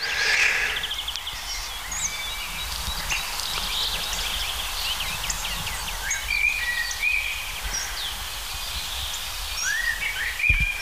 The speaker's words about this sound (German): Natürlich eine der Hauptdarstellerinnen, die Amsel, besser gesagt der Amselbock.